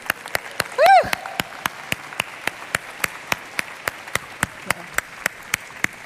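Applause for the creator of a Congress app for the SciTech Congress, in a steady, even rhythm of sharp claps, about four per second throughout, with a brief high whistle near the start rising and then falling in pitch.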